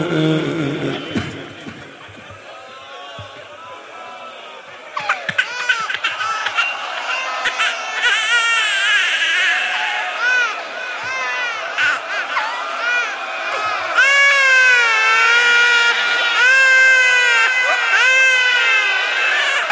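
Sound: baby crying and screaming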